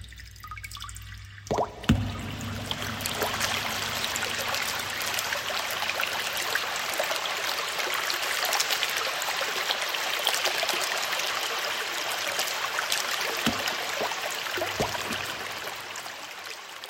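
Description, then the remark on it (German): Flowing stream water rushes steadily over rocks, swelling quickly in the first seconds and then holding a full, continuous splashing roar with no voices. “Das Wasser wird laut, wenn es über Felsen rinnt.”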